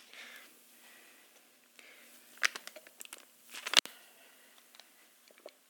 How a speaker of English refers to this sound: So, sorry, I'm going to take a sip here.